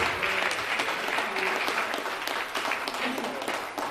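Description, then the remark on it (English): An audience claps in sustained, dense applause in praise of God, many hands beating together steadily and fairly loud throughout, with faint voices mixed underneath. “Let's give God a hand clap of praise in this place.”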